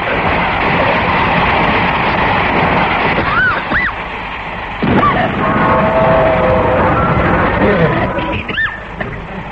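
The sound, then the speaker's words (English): A loud, steady rushing rumble of a train coming along and being sent into a washout, with brief rising-and-falling whistle-like glides over it and a sudden surge of noise partway through. “Oh, there is a train coming,”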